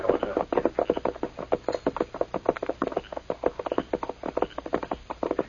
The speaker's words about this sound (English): Listen. Hey, a horse is nearby. That's Scout. Huh? Tonto's horse.